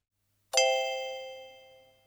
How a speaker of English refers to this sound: It felt like a dream that would last forever, until the clock struck midnight.